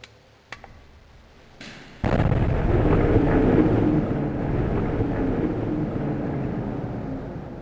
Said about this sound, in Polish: Saperzy zaledwie zdążyli zdetonować jedną bombę, gdy dostali wezwanie do kolejnej w tym samym miejscu.